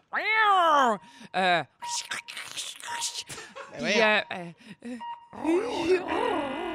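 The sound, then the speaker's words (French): A person voices a rapid series of cat-like noises, drawn-out meowing wails, growls and chirps, loud, in quick succession with short pauses, trying to give three sounds a cat can make other than meow. “À part miaou, 3 bruits qu'un chat peut faire.”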